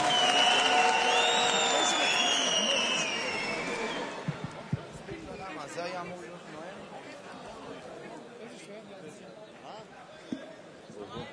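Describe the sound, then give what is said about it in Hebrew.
A live audience at a Sukkot concert event breaks into applause, with whistles and cheers riding over the clapping at first, then settling into a steadier, slowly fading patter of hands and crowd murmur. “תנו לו מחיאות כפיים בבקשה.”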